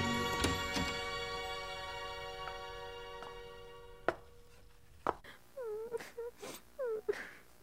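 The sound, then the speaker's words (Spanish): A woman cries softly in short, wavering sobs and whimpers, coming in quick bursts near the end, after a few sharp knocks and clinks at the start, in a kitchen at night. “¿Estás llorando otra vez, hija?”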